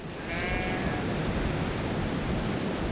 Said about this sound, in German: Der Wind bricht sich in alten Buchen und knorrigen Eichen. Wie Meeresrauschen klingt es.